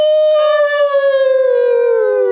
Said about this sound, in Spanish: Escuchamos al perro del vecino.